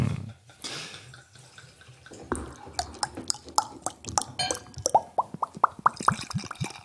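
Brewdog Punk IPA Postmodern Classic beer glugs out of a bottle into a glass in a quick run of gurgling plops that speed up and rise in pitch as the glass fills, with no voices.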